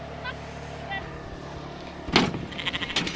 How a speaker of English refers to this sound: pushing a few more sheep up the raceway. Will this be the last time you crutch these girls for the summer? Yes, it will be, yep.